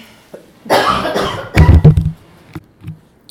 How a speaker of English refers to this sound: And I'm going to start having a cough attack